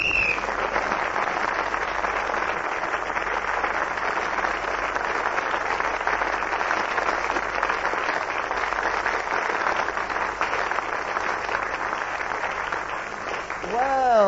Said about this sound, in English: So that lovely applause which Clement asked for Peter Jones, but I give it to all of them because they all give such tremendous value.